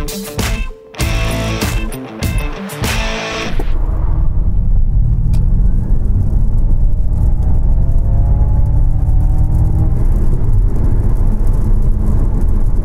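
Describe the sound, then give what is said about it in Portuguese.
A 487-horsepower car's engine roars as it accelerates hard from 0 to 100, with a few sharp bursts at first, then a loud, steady drone whose pitch climbs continuously. No one speaks. “depois da gente ter feito esse 0 a 100, agora eu posso contar quantos cavalos tem esse carro e, pasmem vocês, hein?”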